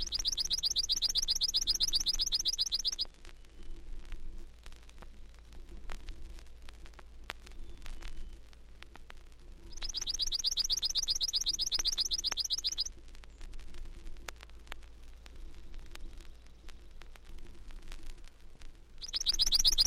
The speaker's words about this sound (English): The simple trill of the familiar chipping sparrow often passes unnoticed in the spring medley of bird voices.